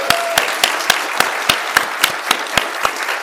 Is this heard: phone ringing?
no